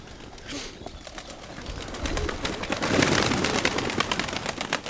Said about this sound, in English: the two birds landed right back down in the dirt yard